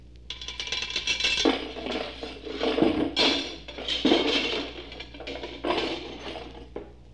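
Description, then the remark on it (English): Metal armor plates clank and rattle in a steady run of jangling, scraping bursts, presented as the knight Sir Launcelot taking off his armored trousers piece by piece, with no voices. “That was Sir Launcelot taking off his trousers.”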